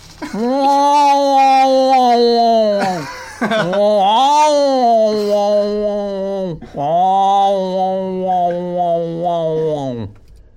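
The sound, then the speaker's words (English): A person imitates the wailing of their other cat, Tigger, with three long, loud, moaning yowls whose pitch wavers and bends, separated by short pauses for breath. “That's basically the sound our other cat makes.”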